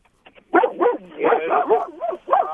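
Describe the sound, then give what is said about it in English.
Two dogs, Twister and Maverick, bark and yip in quick, overlapping bursts, loud, with a couple of short sharp yaps at the start before a sustained run of barking. “Those are my dogs.”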